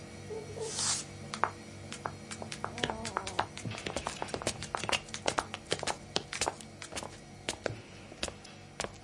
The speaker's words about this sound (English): Can you hear them? Her footsteps. She walks all the time, day and night, never seems to sleep and only stops walking when a new batch of drugs is delivered.